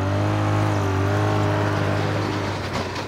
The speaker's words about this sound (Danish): Der foregår det på sneskuter, som faktisk svarer til kæmpe store motorcykler med lavfødder. De kan køre sindssygt stærkt, og de er enormt tunge.